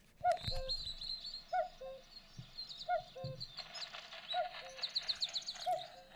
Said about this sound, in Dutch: Hier horen we, denk ik. Hier horen we wel de koekoek.